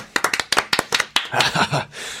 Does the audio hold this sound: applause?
yes